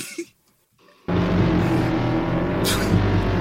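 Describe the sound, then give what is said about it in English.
After a second of near silence, a loud motorbike engine suddenly roars in and holds a steady, throaty rumble to the end, with a brief rising whine partway through. “Motorbike.”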